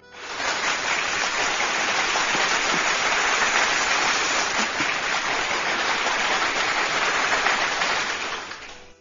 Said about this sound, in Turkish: Hocam yüreğine, gönlüne, kalemine sağlık. Kocaman kocaman alkış.